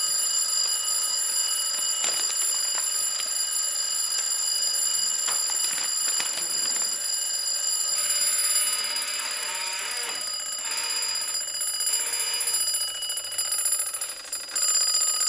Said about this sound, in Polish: A ten budzik specjalnie jakoś się włączył? Nie, po prostu po remoncie testuję i sprawdzam, czy on prawidłowo działa i czy odezwie się o tej godzinie, na którą został nastawiony.